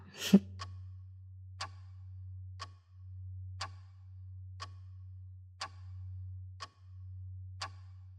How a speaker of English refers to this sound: First, close your eyes. Listen very closely to the sound of the metronome. One, two, one, two, one, two.